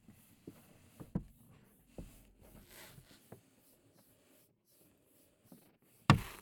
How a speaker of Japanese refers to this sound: 特別に紙袋を取ってあげるわね。それじゃ行くわよ。 ゆっくりと紙袋を上に、